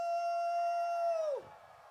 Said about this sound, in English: I said, are you howling at the moon? Howl at the moon.